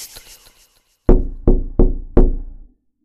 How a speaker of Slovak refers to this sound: Už to nevydržím. Zbláznim sa, keď budem počúvať to klopanie celú noc. Aspoň uvidím, kto to je a budem mať konečne pokoj.